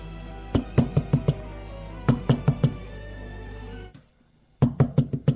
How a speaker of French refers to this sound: On a frappé à la porte. Ça l'a fait sursauter et lâche le flacon qui tombe à terre et se brise.